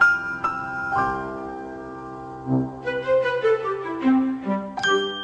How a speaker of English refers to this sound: substituted for Danny on the triangle